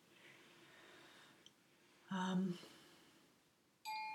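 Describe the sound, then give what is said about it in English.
A soft chime rings out once around the middle, then a brighter, clear chime strikes near the end and keeps ringing, both fairly loud against a quiet background; chimes played to open a yoga nidra relaxation session. “Here they come, here come the chimes.”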